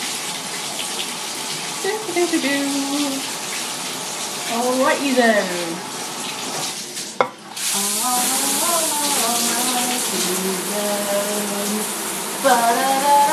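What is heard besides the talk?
shower water running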